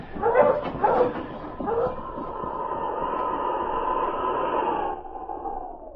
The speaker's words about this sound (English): Ned had gone about half a mile when he heard a dog team coming behind him. Dog team coming after us.